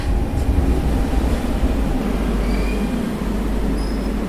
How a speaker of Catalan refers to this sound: Entrem al metro. Bé, doncs ja som a l'estació de Sants de la línia 3, ara arriba el metro.